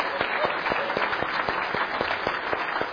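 A church audience applauds steadily for the pianists and organists as a gift is presented to them, dense clapping filling the room at moderate volume for the full length, with a few sharper individual claps standing out in the mix.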